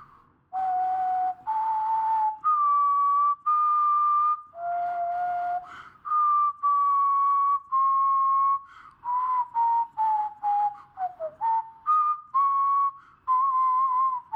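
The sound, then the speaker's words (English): A person whistles a slow, stepwise melody alone in place of a musical instrument, a tune a king plays for Bach, with sustained pure tones gliding between pitches and brief breaths between phrases, clear. “Now we are recording it without a musical instrument, so I'll whistle it”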